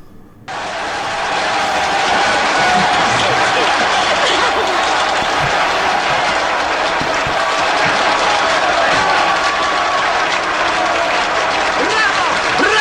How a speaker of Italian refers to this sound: Che ci sono anche gli applausi in diretta, aspetta che li ho preparati